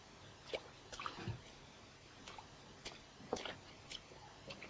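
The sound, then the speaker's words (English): Light, irregular splashes and drips of water as a child splashes, a handful of quick wet slaps scattered unevenly over a few seconds, with no one talking. “Hey, Mr. Splasher. What happens if I splash too?”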